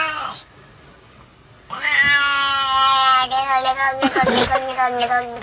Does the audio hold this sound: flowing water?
no